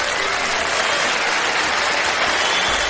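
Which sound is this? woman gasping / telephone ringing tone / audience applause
audience applause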